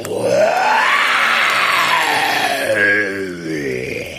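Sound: tiger roaring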